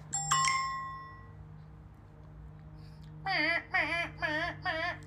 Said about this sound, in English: Yeah. Alarm. Alarm clock.